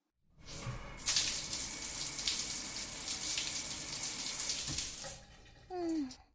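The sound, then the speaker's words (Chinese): Shower water, turned on to rinse saliva off a boy's face, runs in a steady hissing stream for about four seconds, then shuts off abruptly, followed by a brief rising tonal squeak. “好了好了，男生满脸都是女生的口水了，快开淋浴冲洗一下吧。”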